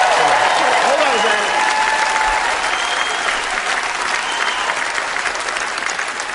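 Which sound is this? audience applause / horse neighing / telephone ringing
audience applause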